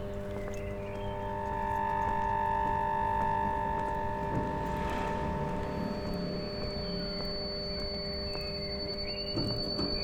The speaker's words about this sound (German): Draußen auf der Straße begegne ich aber wieder diesem Summen. Es kommt aus Stromkästen und Gegensprechanlagen in verschiedenen Färbungen.